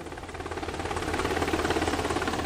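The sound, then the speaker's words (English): A Black Hawk helicopter flies by, its rotor blades beating in a fast, steady thump over a broad engine roar that swells slightly louder. No one speaks. Black Hawk helicopters are delivering Medal of Honor recipients to schools across the state of Massachusetts. “Black Hawk helicopters delivered Romache and other Medal of Honor recipients to schools across the state of Massachusetts”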